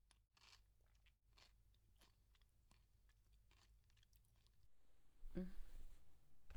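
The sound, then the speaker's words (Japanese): Loud crunching as someone chews fresh raw vegetables, with crisp snaps repeating in a quick, uneven rhythm. A brief voiced sound breaks in near the end. “うるさいくらいポリポリですね。”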